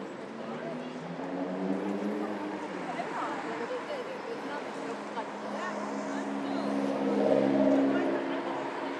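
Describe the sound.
Steady traffic rumble at roadside bus stop A, with a humming engine that swells louder toward the end and indistinct voices murmuring beneath the noise.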